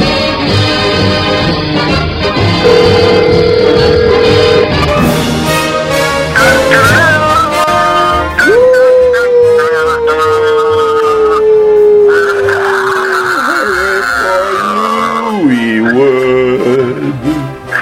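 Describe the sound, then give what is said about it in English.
A voice does a loud, drawn-out impression of the MGM lion's roar, with long sliding growls that rise and fall in pitch, repeated over a dense, steady background of sound. “what do you think of my appreciation of the MGM lion?”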